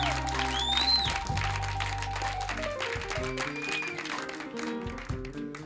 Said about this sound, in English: How about a nice round of applause for Lewis?